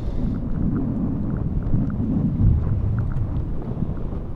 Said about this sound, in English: As he picks his way across a windy bluff,